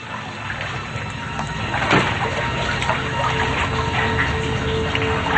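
wading through waist-deep water

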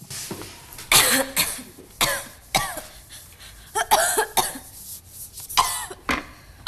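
coughing

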